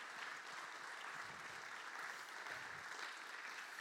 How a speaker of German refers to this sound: Vielen herzlichen Dank. Ein Applaus für die Menschen, die hier...